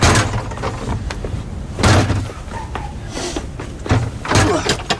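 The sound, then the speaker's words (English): The door of a house is forced open with several loud, heavy blows spaced a second or so apart, each crashing impact with a rattling, splintering edge and no voices. “We'll have to break the door.”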